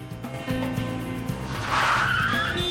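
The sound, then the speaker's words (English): A speeding car's engine roars, then tires screech sharply as it skids hard toward a stop after a man steps out onto the road into its path, the squeal rising loud over the motor near the end. “With McCurdy's betting shop set firmly in his sights, he steps out onto the road, right into the path of a speeding car.”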